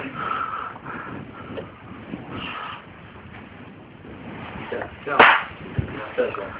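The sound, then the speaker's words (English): A single short, sharp cough bursts out over a steady murmur of background noise, followed by a couple of softer, brief sounds. “That's a cough, yeah.”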